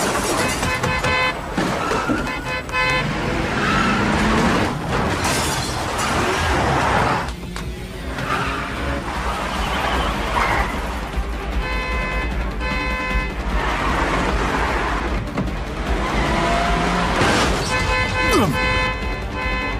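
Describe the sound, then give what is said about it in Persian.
A loud, chaotic police car chase after a suspect vehicle on Dangilgan Street: engines roar continuously with horns blaring and tires screeching, the action dense throughout, with indistinct shouting voices mixed in. “در حال تعقیب یه خودروی مظنونم.”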